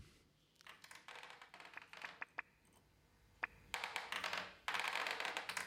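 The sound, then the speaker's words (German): Rapid mechanical tapping from a small lifting solenoid, a simple, primitive mechanical machine, clicking in quick irregular bursts that grow denser and louder toward the end, with no voices. “Das ist ein Hubmagnet, das kann einfach klopfen.”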